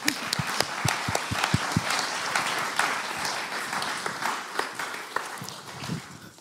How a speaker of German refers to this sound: Danke, Jesus. Halleluja. Applaus für Jesus.